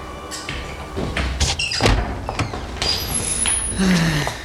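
A door is unlatched and opened, with a run of clunks, rattles and scraping handle sounds, then a brief high tone and a low creak as it swings. No one speaks.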